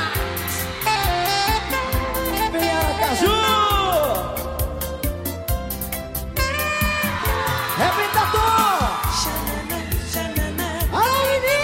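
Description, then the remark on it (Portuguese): High-pitched girls' screams and cheering whoops, rising and falling in long swooping cries, ring out over a loud, steady, bass-heavy dance beat that plays throughout. “E o grito das minhas meninas.”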